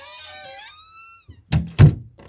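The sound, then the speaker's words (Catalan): A shimmering, magical rising tone fades out, then two loud, heavy slams land in quick succession as a headmistress uses magic to make the doors and windows bang shut. “Sense saber com, la directora va fer una mica de màgia i les portes i les finestres es van tancar.”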